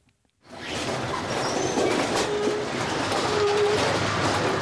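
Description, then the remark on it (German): A heavy Deutsche Bahn track renewal train rumbles and grinds steadily as it replaces railway sleepers one by one, a grab arm lifting old sleepers from the track bed while new ones are laid a few metres behind, with dense mechanical clatter, scraping and occasional high metallic squeals, beginning abruptly after a brief silence. “Schwelle für Schwelle arbeitet sich der hochmoderne Umbauzug vorwärts.”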